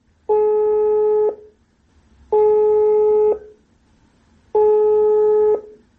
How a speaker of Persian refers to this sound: تماس میگیریم که ما را میشناسه نمیشناسه و آیا تلفن اوکی میکنه یا میگه که وقت ندارم.